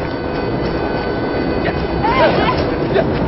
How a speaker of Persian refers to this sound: یه قطار داره میاد. نگران نباش به موقع رد میشی.